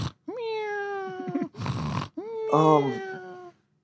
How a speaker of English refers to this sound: The cat that I'm sitting next to is snoring. Is that the new cat or the old? Oh, no, don't have the new cat yet. Yeah, the old cat is snoring. Like really loudly. What does that sound like?